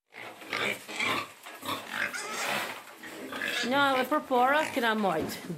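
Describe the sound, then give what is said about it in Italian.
Pigs grunt and snuffle in a rapid string of rough, noisy bursts, then break into several louder, rising and falling squeals toward the end, at a pig farmer's stable in Klina, a town of 40,000 people in the west of the country. “Tone Gergiai, albanese e allevatrice di maiali, vive a Klina, cittadina da 40.000 abitanti nell'ovest del paese.”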